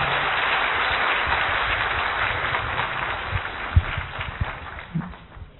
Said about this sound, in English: You know clapping? Yes, good.